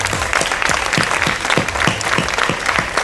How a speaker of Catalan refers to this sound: Jo crec que d'aquí us podeu fer un gran aplaudiment perquè us el mereixeu.